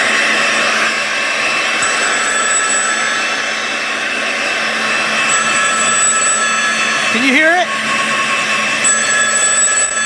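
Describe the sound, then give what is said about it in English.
A hair dryer, held up to a phone, blows in a steady, loud, whooshing roar with a faint high whine, heard through the phone line for the whole clip while a voice briefly speaks over it. “You've got the hair dryer right in front of you?”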